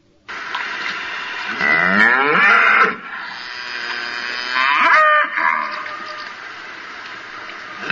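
A cow moos loudly, two long, drawn-out lowing calls with a rising and falling pitch, one around two seconds in and another near five seconds, with no talking.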